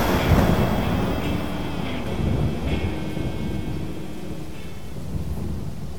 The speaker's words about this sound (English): The lightning bolt dropped like a bomb, blasting into Black Adam with a concussive force that threw us back on our asses. I blinked away tears and waited for the ringing in my ears to die down.